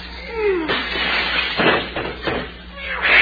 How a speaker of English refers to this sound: Yeah, Clem, is there any way of stopping that cat out there on the fence?